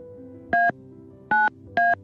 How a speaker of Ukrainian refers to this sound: Так, слухаємо трошечки далі від слухавки, тому що чуємо, як ви, мабуть, що щокою натискаєте на клавіатуру.